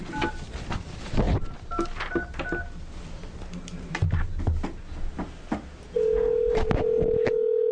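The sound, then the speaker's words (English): A quick burst of touch-tone keypad beeps, several short dual-tone presses in a row, as Commissioner Maney is phoned during a panel hearing, followed by a steady, continuous phone tone that hums on to the end amid faint background clatter. “Literally calling her.”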